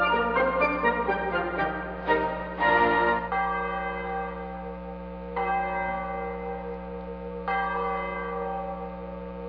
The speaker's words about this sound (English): As the three of us sat near the open window, the nearby church bell was tolling a funeral knell. Those church bells are quite ominous.